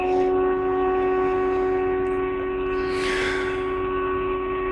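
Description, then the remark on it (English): Storm sirens drone in a steady, unbroken tone throughout, filling the space, with a brief breathy rush of noise partway through and no one speaking. “Are those storm sirens? I think so.”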